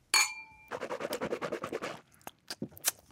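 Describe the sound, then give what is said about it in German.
Two glasses of water clink once in a toast, bright, with a short ringing tone. A run of quick, rhythmic scratchy noises follows, then a few scattered soft clicks. Nobody speaks. “Also, komm, Prost, Entschuldigung.”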